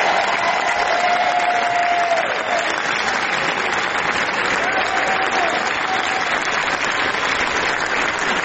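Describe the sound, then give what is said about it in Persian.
A large audience at the festival palace of the Cannes Film Festival applauds the cast and crew of the film The Seed of the Sacred Fig, an ovation lasting 12 minutes: a dense, steady roar of clapping that never lets up, with a couple of faint whistles or cheers rising briefly above it. “فیلمی به شدت صریح و نفسگیر درباره التهاب‌های درونی خانواده‌های مسئولان حکومت جمهوری اسلامی و خشونت‌های نهادینه شده در افکار و اعتقادات این افراد که با استقبال پرشور تماشاگران مواجه شد و اونها 12 دقیقه عوامل این فیلم رو در کاخ جشنواره کن تشویق کردند.”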